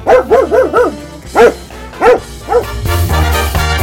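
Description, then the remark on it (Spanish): A dog barks: a quick run of four yapping barks, then three single barks spaced apart, ending in a rougher, noisier stretch. “Sería un perro porque me identifico con guardián de la casa y protector de todo.”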